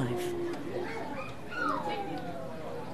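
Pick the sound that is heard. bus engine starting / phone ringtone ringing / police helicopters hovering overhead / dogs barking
dogs barking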